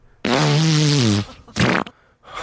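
A loud, drawn-out queef with a buzzing, reedy tone whose pitch sags slightly over about a second, followed after a brief pause by a shorter, rougher burst.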